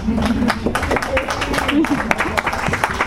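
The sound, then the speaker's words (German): An audience in a lecture hall applauds with steady, dense clapping lasting the full few seconds, while a voice talks faintly underneath the clatter of hands. “Aber der Applaus geht auch an Sie, vielleicht haben ein paar von Ihnen zugegriffen und vielleicht ist ja das eine oder das andere Posting, also von den 476 Postings ja auch von jemandem hier im Hörsaal.”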